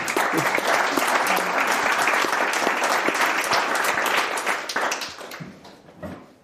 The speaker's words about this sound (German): Jetzt hast du mir gerade Punkt, wirklich, das ist so ein Mic-Drop-Moment. Wirklich, Applaus für dich.